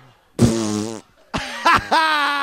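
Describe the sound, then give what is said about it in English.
Loud, buzzy farting noises: one long blat, a short pause, then a longer rippling series that wobbles in pitch, raspberry-like, with no talking. “Hey, we're farting over here.”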